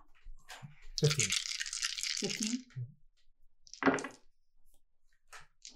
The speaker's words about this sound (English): Dice are gonna roll good for me first.